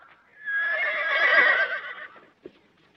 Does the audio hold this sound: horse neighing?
yes